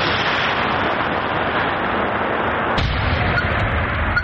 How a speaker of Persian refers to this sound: دوربین در مسافه تقریباً 500 متر از بمبی که باید نابود گردد گذاشته می شود. نواربردار کوشش می کند که دوربین را درست کند تا در وقت ترکش نافتد. بمب های هوایی و دیگر مهمات نوترکیده جنگی را به نوبت نابود می کنند.